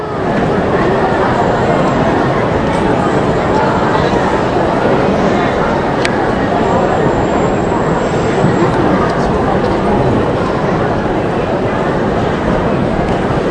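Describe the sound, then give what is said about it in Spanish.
A train rumbles steadily and loudly throughout, a dense continuous roar with faint high metallic squeals drifting in partway through and no pauses. “Todavía resuenan en nuestros oídos ese sonido de esos trenes que conducían a nuestro pueblo a Auschwitz y que recordamos hace unos días cuando recordamos Yom HaShoah.”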